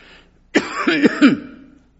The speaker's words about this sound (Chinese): 我讲到激动的时候就咳嗽， 当我讲到激动的时候呢，我会咳的。